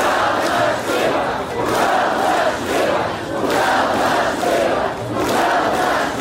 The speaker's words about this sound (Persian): در این نمایش اعتراضی هزاران نفر شرکت کردند که در تاریخ شهر بی سابقه است. گفته می شود که در اعتراض امروز از 15 تا 50 هزار نفر اشتراک کرده است. آنها راههای اساسی شهر را بستند و در نزد شهرداری شعار دادند.